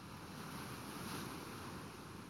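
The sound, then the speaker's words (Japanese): Steady ocean surf rolls on continuously with a broad, hissing wash and a low rumble, gently swelling around the middle; no voices are heard. “波の音を聞いて心を清めてください。”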